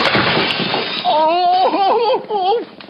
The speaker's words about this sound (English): Het plafond dat door de lekkage ernstig heeft geleden is opengebarst.